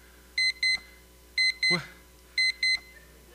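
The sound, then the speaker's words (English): An alarm clock beeps in quick pairs, beep-beep, repeating three times at a steady one-second rhythm. The tones are clear and bright, with a brief soft thud between the first two pairs. “It was just a dream, right? The alarm goes off. We wake up, and then we want to go to work, and we're angry, right?”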